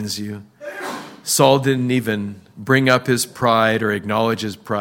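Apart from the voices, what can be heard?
sneeze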